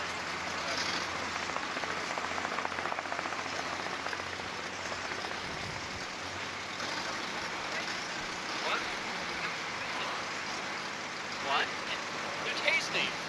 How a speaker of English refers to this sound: Why is there so much traffic in this goddamn parking lot? Traffic? This is the Grand Auto. It's up for midnight. They're not going to Grand Auto. They're going by Grand Auto.